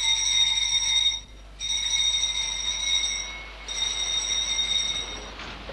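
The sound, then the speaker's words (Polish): A ship's maneuvering alarm rings loudly and steadily with a shrill electric tone, sounding in long bursts separated by two brief pauses, as the ship casts off and the gangway is raised, with no voices. “Alarm manewrowy! Alarm manewrowy!”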